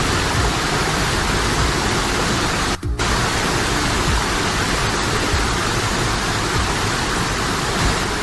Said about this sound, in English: Glen Helen Waterfall.